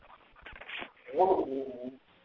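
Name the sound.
puppy whimpering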